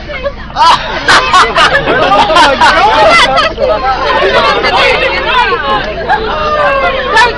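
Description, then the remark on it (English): A crowd of immigrants shouts and chatters at once in a loud, continuous hubbub, with excited overlapping cries rising above the din throughout. “As you can hear from the reaction here, they are immigrants!”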